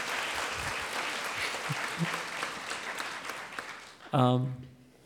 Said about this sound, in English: yeah, no, that deserves applause.